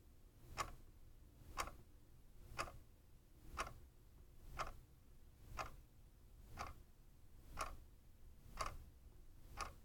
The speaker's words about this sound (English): Let your awareness settle on the ticking of a clock. Hear the seconds as they click by. You are hearing a sound.